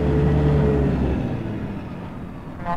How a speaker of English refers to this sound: Nighttime, Red's semi pulls up a dirt drive toward a well-lit barn and farmhouse.